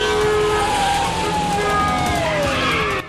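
A loud, busy police car chase: roaring engines and a whining tone that slides steadily downward, like a siren or squealing tyres sweeping past, continuous for about three seconds, as police cars pursue a man fleeing on foot.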